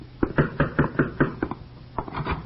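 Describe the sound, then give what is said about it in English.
A quick run of firm knocks on a wooden door by a visitor arriving at the narrator's door, about eight raps in steady rhythm, then a short pause before a few more. Fairly loud, with no voices. “When Comrade Martin finally knocks at my door, I make no effort to hide my resentment.”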